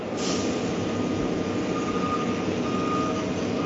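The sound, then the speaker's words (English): A dump truck rumbles steadily while its reversing alarm beeps over the engine noise, a continuous heavy machinery drone with no voices. “Yeah, there is still a dump truck noise.”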